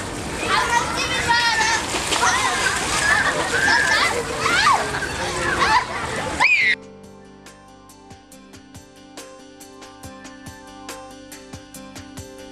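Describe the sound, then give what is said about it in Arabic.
Busy splashing and sloshing of water as a substance that reacts with urine is added to water in a basin fills the first half, with children's voices mixed in, then cuts abruptly to a quieter stretch of faint, scattered ticks and steady tones. “هلا راح نضيف هاي المادة على الماء، المي هنا هي عندنا ما فيها المادة، هلا راح نضيف المادة عليها.”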